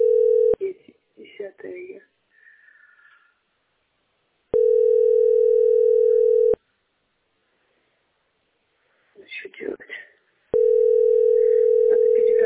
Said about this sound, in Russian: Зачем гудки тогда дают, я не понимаю. Такой маразм, боже мой.